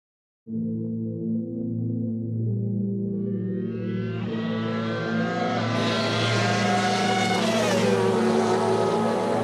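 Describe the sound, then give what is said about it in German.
Formula One race car engines at the Australian Grand Prix, Niki Lauda's farewell race: a steady low drone swells into a loud, high-pitched screaming roar, peaking near the end before the pitch dips slightly. No one speaks. “Niki Lauda in seinem Abschiedsrennen im Grand Prix von Australien in Führung.”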